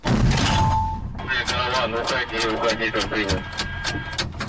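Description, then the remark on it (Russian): A single loud artillery shot booms with a broad, rumbling blast lasting about a second, fired by a gun crew at an enemy dugout at given coordinates, then men's voices talk over a lingering background rumble. “Экипаж получил боевую задачу, нам дали координаты, мы выехали на удобную для себя позицию, нанесли огневое поражение по блиндажу противника, сделали 3 выстрела.”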